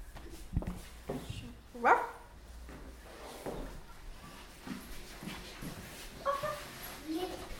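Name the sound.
puppy barking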